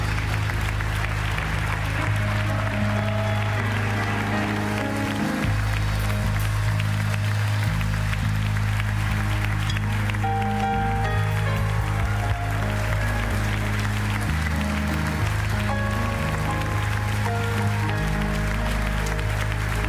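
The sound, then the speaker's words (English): An audience, just dismissed, claps steadily and continuously throughout, a dense, sustained wash of applause blended with loud, held musical notes underneath, with no pauses or talking. “You're going to stand there and clap all day, or you're going to go home.”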